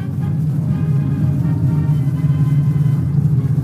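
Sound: aircraft engine drone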